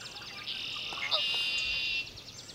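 A dawn chorus of marsh birds at about 5 a.m. on a May morning in 2014 at Great Meadows National Wildlife Refuge in Concord, Massachusetts, as sunlight floods the sky: many high, overlapping chirps and trills blend into a steady, moderately quiet wash, with a few calls standing out briefly.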